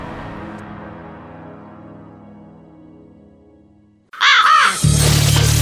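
A low sustained tone fades away, then a raven bursts in with loud, harsh, raspy caws, two rough calls in quick succession with no voices.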